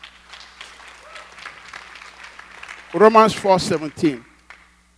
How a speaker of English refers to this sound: Thank you, my brothers. Let's clap for them.